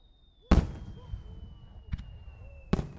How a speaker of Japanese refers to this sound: ここならゆっくり。花火を楽しめるわね。